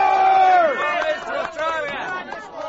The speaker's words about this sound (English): After 12 hours on the road, we arrived at last to be greeted by a brass band and hundreds of excited townsfolk.